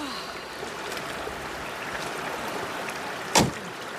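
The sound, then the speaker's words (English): Steady rushing water of a mountain river ford fills the scene, broken near the end by a single sharp clunk of a Land Rover door opening, followed by the wash of water as the Queen steps out of the stalled car into the river. “The Queen steps out of the car into the mountain waters.”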